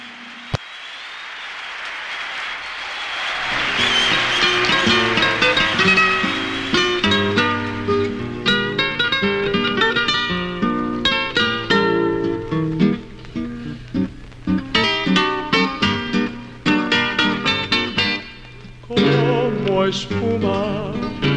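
An old live recording of a song, made in Havana, Cuba, in 1944: after a brief opening noise, a full band plays with steady rhythmic chords, bright brass or strings, and lively percussion, sustained and loud throughout, with slightly noisy fidelity.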